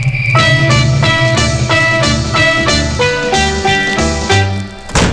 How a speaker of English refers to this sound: Who slammed the door? Who slammed the door?